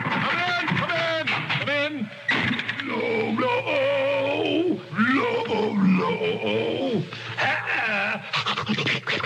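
A dog whines and howls in drawn-out, wavering high-pitched cries, rising and falling continuously with panting breaths between, fairly loud throughout.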